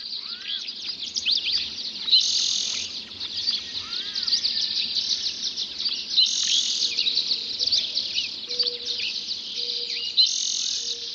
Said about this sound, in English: There is a hidden order in the cacophony of song. The first birds to sing are usually the ones perched highest in the tree canopy. They are the first to see the sun. The birds lower down join the chorus as the light reaches deeper into the canyon.